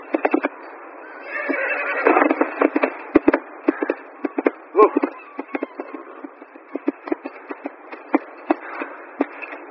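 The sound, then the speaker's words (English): A horse whinnies amid a flurry of sharp, rapid clattering hits, like hooves striking hard ground, busy with no one talking, as the horse is ridden toward a ravine to jump it. “If the horse can, I can.”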